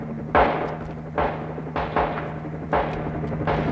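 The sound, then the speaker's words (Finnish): A series of sharp, booming gunshots, fired from the shore at a large transport helicopter, cracks out at uneven intervals over a steady low engine drone, each shot followed by a brief decaying rumble. “Tuhannen tulimaista joku ammuskelee lentokonet. Sitä tulitetaan rannalta käsin.”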